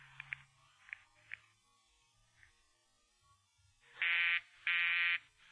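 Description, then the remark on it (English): A few faint clicks and blips, then a loud telephone busy signal: two harsh, buzzy mid-pitched tones, each about half a second long, with a short pause between, and a third starting. The line being called is radio station KRNX, busy with the disc jockey's phone requests. “The line's busy, sir.”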